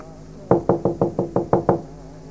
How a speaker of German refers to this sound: ich glaube, das hat geklopft.